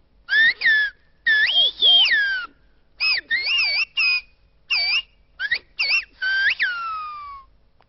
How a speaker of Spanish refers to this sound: te voy a pedir, …, que para acabar me silbes algo